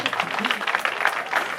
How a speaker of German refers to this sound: Und das ist Ihr Applaus.